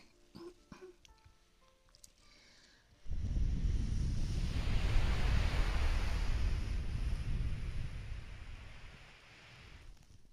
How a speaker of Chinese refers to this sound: 感觉到了吗？海风加海浪的声音。